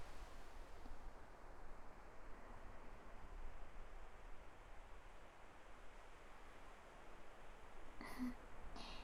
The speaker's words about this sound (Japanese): 波の音もさっきよりはっきり聞こえる気もするし